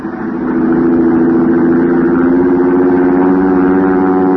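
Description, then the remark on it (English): A small plane's engine drones loudly and steadily at night as the plane flies away into the darkness, swelling up within the first half second and then holding a constant, low, buzzing hum with no voices. “I watched Al's plane until it was swallowed by the darkness.”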